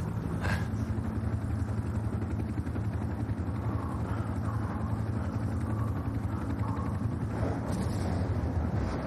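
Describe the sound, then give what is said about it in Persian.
Steady, roaring wind of stormy weather blows without pause, a dense low rumble with a hiss over it and slight gusty swells, holding at the same loud level throughout with no voices. “وضعیت هوا طوفانیه.”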